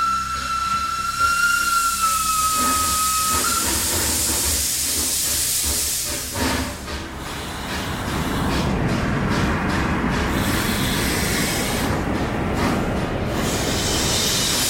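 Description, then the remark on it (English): A steam train lets out a steady whistle, then bursts into loud, roaring steam hiss with rhythmic chuffing as it gets moving, continuous with no voices. “he discovers that the old, stationary, abandoned train he and his friends have been using as a clubhouse for the past year can actually move.”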